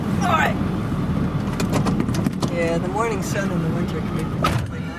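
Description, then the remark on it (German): A steady, loud engine rumble from inside a huge diesel truck belonging to the director of the Green Bank Observatory, driving over a wide field between spruce forests, with rattles and knocks from the bumpy ride and voices speaking briefly over the noise. “in ihrem Dieseltruck, ein Riesending, und wir fahren über das weite Feld zwischen Fichtenwäldern”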